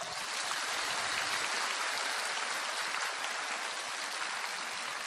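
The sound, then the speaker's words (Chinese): Dense, sustained clapping from many hands, a steady wash of applause that holds at an even loudness for the whole stretch, with no speech over it. “啊，你鼓掌是这么鼓的？”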